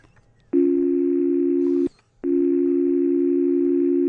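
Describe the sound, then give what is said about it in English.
A voice imitates a telephone dial tone, producing two long, steady, flat hums separated by a brief pause, loud with no other talk. “That was a good imitation of a dial tone.”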